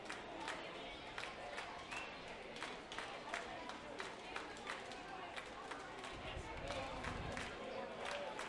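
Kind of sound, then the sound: crowd, stadium crowd clapping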